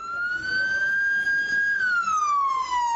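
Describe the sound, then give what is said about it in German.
An ambulance siren wails loudly, a steady high tone that holds, then slides downward as the vehicle passes, over a low rumble of road noise, as the ambulance reaches the hospital of Ajdabiya in eastern Libya during the Libyan civil war. “Ein Rettungswagen erreicht das Krankenhaus von Adjdabia.”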